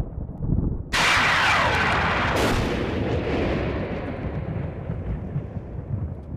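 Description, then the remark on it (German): A sharp, loud thunderclap from lightning cracks suddenly, followed by a second crack, then a long deep rumble that rolls on and slowly fades, with no voices; caused by air in the lightning channel, heated to up to 30,000 degrees Celsius, expanding explosively. “Die derart erhitzte Luft dehnt sich explosionsartig aus.”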